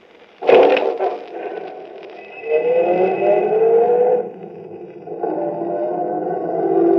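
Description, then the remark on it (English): A sharp thump, then an empty taxi's engine revs up at a street corner on a Chicago street and pulls away, its droning pitch rising and settling into a steady hum as it drives off. No one speaks. “At a street corner, there was an empty taxi. Where to? Just drive.”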